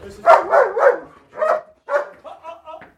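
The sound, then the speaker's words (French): Four purebred German shepherd security dogs bark in quick bursts: a rapid run of loud barks, a pause, then scattered single barks trailing into softer, higher yips. “These are real German shepherds.”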